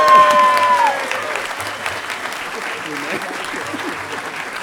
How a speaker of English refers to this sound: Everybody, round of applause